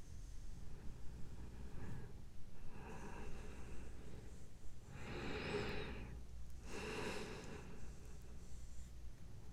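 Heavy, panicked breathing of a person having a panic attack: a few loud, ragged inhales and exhales in uneven rhythm over a steady low background hum, with no talking.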